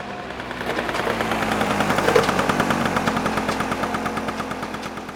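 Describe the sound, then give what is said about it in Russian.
A motorcycle engine roars and crackles right under a window, with a rapid, steady crackling putter that stays loud and even for several seconds. No one speaks. “Потом под самым окном заревел и затрещал мотоцикл.”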